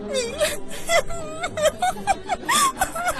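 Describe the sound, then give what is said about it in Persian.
A girl cries and whimpers up close, her voice breaking into short, wavering sobs that rise and fall in pitch over a few seconds, steady and fairly loud. “گریه نکن، آروم باش.”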